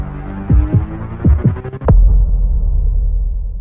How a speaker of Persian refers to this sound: رنگش پرید. ضربان قلبش زیاد شد.